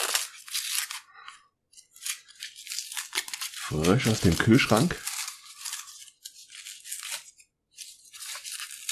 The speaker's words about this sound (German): Ja, wieder schön in Papier und Tape eingewickelt. Mal sehen, ob ich es jetzt in die Schnelle aufbekomme. Ja, obwohl doch, geht gut.